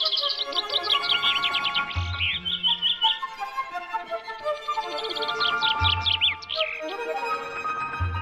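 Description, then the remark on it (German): A songbird sings a regional song dialect learned while growing up in a certain area: a rapid, varied song of bright chirps and trills in repeated phrases, clear, with a low rumbling thump now and then in the background and no voices. “Und da sind wir jetzt eben bei den Dialekten, weil die lernen die Vögel eben beim Aufwachsen.”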